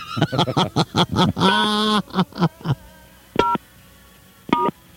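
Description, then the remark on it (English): A rapid flurry of short tonal blips and a sustained tone, then two separate touch-tone keypad beeps about a second apart as a phone number is entered into an automated phone service, against quiet background. “that's finished entering the phone number, press number sign”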